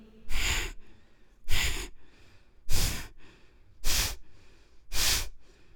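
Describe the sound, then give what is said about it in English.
Five deep, forceful breaths in a steady rhythm during a guided breathing meditation, each a loud airy rush about a second apart, with quieter breathing between them and no talking. “Start breathing.”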